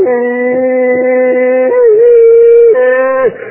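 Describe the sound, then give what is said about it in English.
A human voice imitates three old plot hounds (bear dogs) howling out of tune: long, loud, sustained wailing tones with a couple of wavering pitch slides, carried continuously for a few seconds before breaking off abruptly. “Finally, when they howl, they're all out of tune.”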